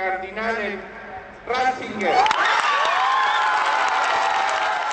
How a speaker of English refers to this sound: When the announcement, "We have a pope," was officially made by the senior deacon of the College of Cardinals from the balcony of St. Peter's Basilica, the crowd let up a roar.